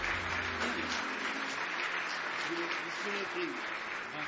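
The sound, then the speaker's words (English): An audience claps steadily throughout as a hand clap of praise, a dense, continuous wash of many hands at an even loudness, with faint voices and low tones mixed underneath. “Give me one more hand clap of praise tonight.”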